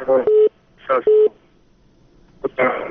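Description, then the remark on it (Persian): Two short, steady telephone line beeps sound after a listener's call-in phone line drops, each tangled with brief bursts of a muffled voice and crackly line noise, then a final noisy burst. “متاسفانه تلفن قطع شد.”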